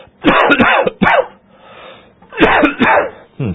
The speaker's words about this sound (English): I'm doing that coughing more and more lately. That's an old person thing too, I think.